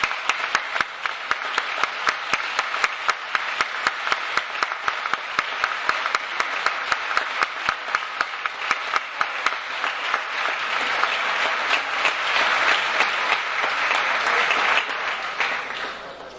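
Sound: audience applause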